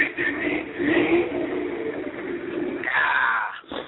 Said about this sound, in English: I'm in my big truck, and it's loud, so I hopefully you can hear me. As a matter of fact, I'll give you a demonstration of how loud my truck is. Hold on, let me throw a neutral.